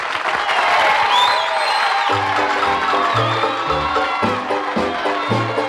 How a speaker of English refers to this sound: And now, as our show opens, we bring you our own singing minstrels with a medley of your favorite songs. Let's bring them on with a round of applause.